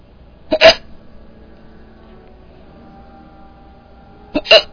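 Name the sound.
hiccups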